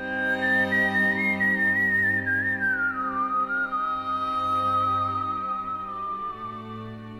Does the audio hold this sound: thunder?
no